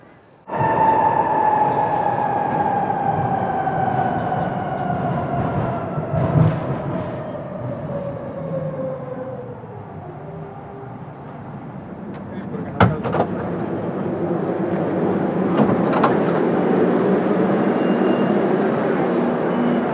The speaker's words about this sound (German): Das war die Fahrt mit der U-Bahn.